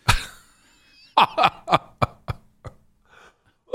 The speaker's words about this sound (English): Sorry, that made me cough. I was laughing for it.